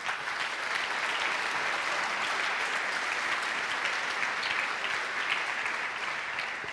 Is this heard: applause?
yes